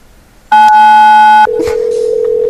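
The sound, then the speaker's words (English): A loud telephone touch tone sounds for about a second, a bright two-pitched beep, then shifts straight into a lower, steady single tone that holds to the end, as a caller phones back. “He's totally calling us back. He's going to tone us again.”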